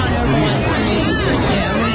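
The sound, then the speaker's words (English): A dense crowd of protesters, pushing and waving signs and banners, murmurs and chatters continuously, many overlapping voices blending into a loud, steady hubbub with no single voice standing out. “People with signs and banners waving. A lot of people pushing.”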